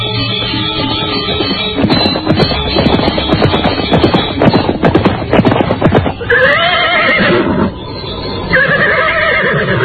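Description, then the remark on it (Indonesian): A horse whinnies with a high, wavering cry while hooves clip-clop in a rapid, uneven rhythm as it is ridden along the bank of the Pedanten river, followed by further loud neighs near the end. “Dewi berkuda mengikuti Kalaba. Semula mereka berkuda menyusuri tepian sungai Pedanten.”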